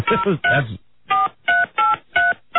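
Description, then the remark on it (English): A short burst of voice-like sound, then four evenly spaced touch-tone beeps from a phone keypad as someone dials their home phone to check voice messages, each a steady dual-pitched tone of about a quarter second, fairly loud, with brief silences between. “I'm calling my home now.”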